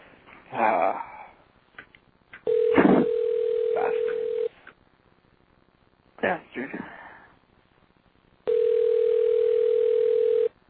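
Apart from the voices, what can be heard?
telephone ringing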